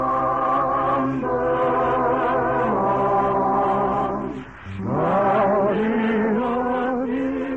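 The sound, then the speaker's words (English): A lilting operetta melody, Gypsy Sweetheart from Victor Herbert's The Fortune Teller, plays on its own as a teaser for next week's show, rich sustained instrumental tones gliding through rising and falling phrases, with a brief soft pause midway before the tune swells again. “Recognize it? One of my favorites, Gordy. Gypsy Sweetheart.”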